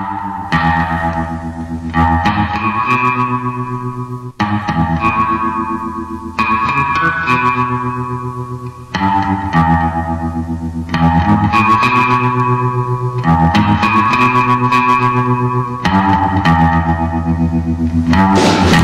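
Twangy electric guitar plays a steady instrumental line with a wet, dripping reverb and echo, loud, with notes shifting every couple of seconds and no voices.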